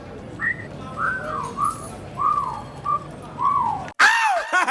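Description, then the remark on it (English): A man whistles at a woman: a short run of bright, sliding notes, each a brief rise or fall, over a low background hum before the sound abruptly cuts to something louder. “You gotta give me that whistle back, brother.”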